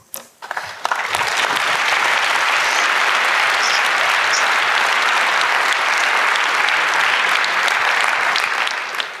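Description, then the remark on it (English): Sustained audience applause at the close of a panel event, a dense, steady wash of clapping hands that swells in within the first second and holds at an even, loud level throughout, with no voices standing out. “And I think we should have one more round of applause also for the people that have been fighting very hard for you two to be able to be here.”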